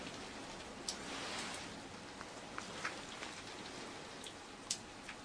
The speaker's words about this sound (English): Got my window open. So that you can hear the lightning and the thunder and the rain.